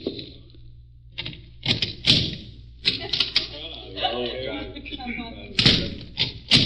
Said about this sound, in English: Mr. Cochran knocking on a door at the end of the alley